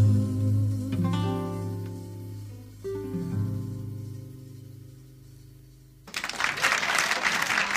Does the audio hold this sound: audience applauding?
yes